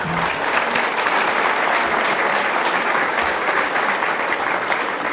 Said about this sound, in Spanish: Entonces, esos acuerdos son los que van a regir dentro del Consejo Indígena General de Gobierno. Un aplauso.